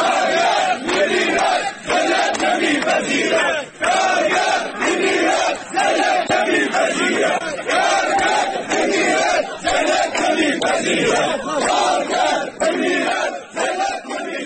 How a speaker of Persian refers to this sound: صدها تن از کارگران کشت و صنعت میان آب اعتصاب و در مقابل اداره کار کرخه تجمع کردند.